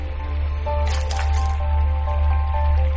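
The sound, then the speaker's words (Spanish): A short, wet slurping burst of someone drinking cold, clean mountain water scooped from an underground river in a former mine about 750 metres below the surface, lasting about half a second, set against a constant deep rumble and faint steady tones. “El agua está muy limpia y te lo voy a demostrar bebiéndola.”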